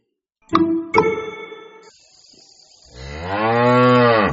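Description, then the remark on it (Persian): A cow on a farm lowing: two short bursts, then after a brief lull one long, rich moo that swells and holds to the end. No one speaks. “گاو میون مزرعه شیر میدهد فراوون، پس بخورید بچه ها، مفید اون براتون.”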